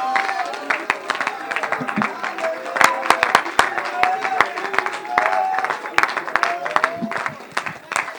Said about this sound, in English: Somebody clap your hands right now to Jesus. Somebody give the Lord praise from your heart.